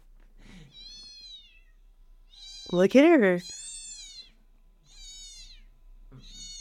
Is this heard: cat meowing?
yes